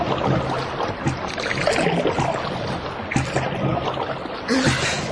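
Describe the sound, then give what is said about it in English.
Paddles splash steadily through river water as a rowboat is paddled hard, a continuous churning with stronger strokes surging every second or so. “Paddle like blazes.”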